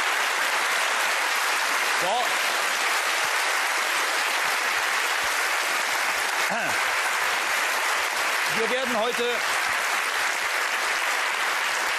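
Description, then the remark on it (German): Sustained, dense applause from a sizeable studio audience celebrating a TV show's 250th broadcast fills the whole stretch, loud and steady, with a few brief voices or calls rising out of the crowd now and then. “die auch unter Applaus ihre 250. Sendung heute gestaltet.”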